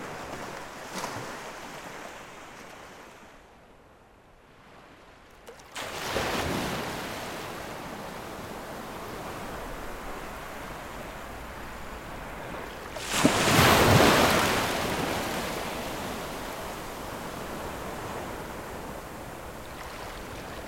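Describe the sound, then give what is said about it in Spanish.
Waves roll in and break on a shore, a steady wash of surf with a quieter lull early on and one louder crashing wave midway, no voices present. “Pasaremos por la rotonda de los naranjos y fluiremos a través de calles, incluso contra el hospital Malvarrosa, para desembocar, por fin, al mar.”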